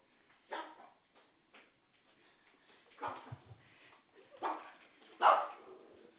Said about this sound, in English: Dogs.